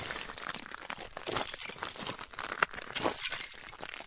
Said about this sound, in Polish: I żeśmy sobie zrobili spacer i pewnego dnia jakoś tak, nie pamiętam już kto z nas stwierdził, że można by nagrać w sumie taki efekt i ten lód się rozbija.